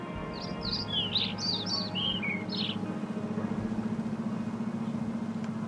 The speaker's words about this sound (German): Auf dem Schreibtisch streiten zwei Spatzen um eine Brotkrume.